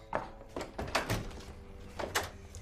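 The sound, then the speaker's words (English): A front door being opened, with a series of soft knocks and rattles from the latch and frame, then a brief shuffle as it swings. No one speaks. “Linda opens the front door.”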